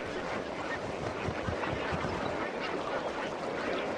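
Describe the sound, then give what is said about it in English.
A dense chorus of honking flamingos at Bogoria, many calls overlapping continuously into a steady, loud clamor of a large flock, with no pauses and no voices. “Some baboons have never seen this many flamingos before.”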